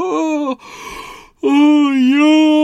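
A drawn-out yawn while stretching: a short voiced groan, then a breathy inhale, then a long, loud moaning exhale whose pitch dips slightly before trailing off. No talking.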